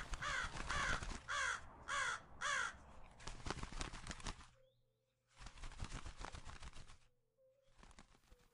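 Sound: crow cawing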